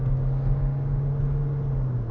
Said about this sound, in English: My car revving up, I'm trying to get up to speed on the highway.